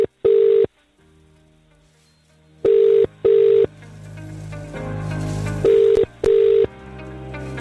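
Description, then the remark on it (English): A phone call to a radio competition contestant rings out on the line with the classic double-burst ringback pattern, two short tone pairs heard three times, loud, with a hissy background hum between the rings. “Phone's ringing.”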